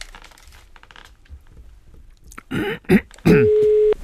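A few handling clicks and thumps, then a single steady telephone ringing tone sounds clearly through the earpiece for about half a second. No one speaks.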